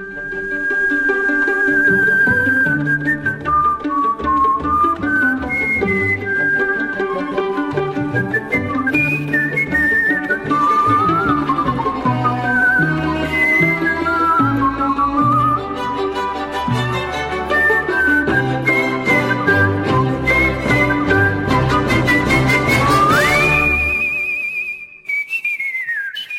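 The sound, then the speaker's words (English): A person whistles a lively, ornate melody from the 2011 Muppets movie with quick runs and trills over full orchestral accompaniment, the whistle bright, ending on a long rising note before fading out. “I just don't hear people whistling as much anymore in general, and definitely not in performance.”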